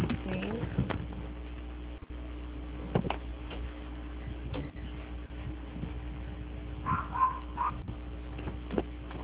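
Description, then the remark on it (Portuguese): A dog gives a short cluster of yappy barks over a steady low hum, with a few faint clicks and knocks earlier on. “Calma aí, achei, deixa só a meu parar de latir.”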